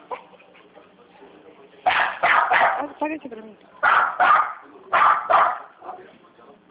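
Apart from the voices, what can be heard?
dog barking excitedly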